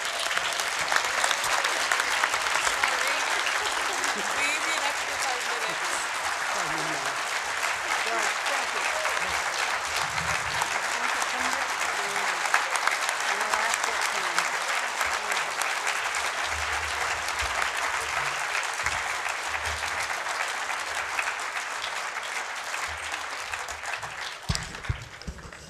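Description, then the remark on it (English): An audience applauds steadily for about twenty-five seconds at the end of a reading, a dense, even wash of many hands clapping that holds its loudness throughout before beginning to thin at the very end. “So why don't we give them another round of applause?”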